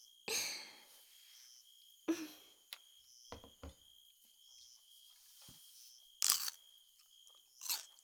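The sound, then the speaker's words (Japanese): A loud, crisp crunch of a bold first bite into a summer snack opens, followed by several sharper snaps and chewing clicks, then another burst of crunching near the end, with no talking. “パキッとゴクゴクってたまらんですな。”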